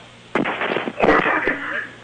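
A sudden, harsh coughing fit after water went down the wrong way: one sharp cough, then a second louder burst of raspy, wheezing coughs that trail off over a couple of seconds.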